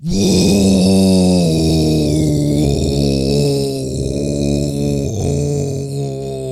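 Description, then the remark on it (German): A voice imitating menacing, threatening growls with a backpack held over the head: a sustained, loud, low guttural rumble with a strained, buzzing tone, wavering slightly in pitch over several seconds without words. “Also Rucksack über den Kopf und jetzt bedrohliche Laute machen.”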